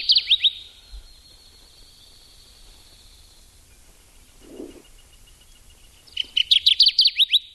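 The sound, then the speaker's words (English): A Kirtland's Warbler sings a loud, rapid burst of bright, emphatic chirping notes, then falls quiet over a soft background hum before a second strong burst of song near the end. “There's a Kirtland's Warbler, and there's one project that's going to work on protecting them.”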